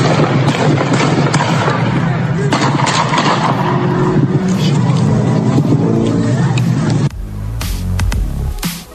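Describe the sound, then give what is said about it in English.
Several sharp gunshot cracks at irregular intervals during a riot punch through a loud, steady wash of crowd noise and engine rumble, with a denser burst of bangs near the end. “As you heard there, some gunshots.”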